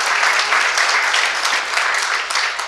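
An audience applauds steadily for a presenter coming forward to give a talk about hacking a Tanzanian ISP, a dense crackle of many hands clapping at an even, fairly loud level throughout, with no voices on top.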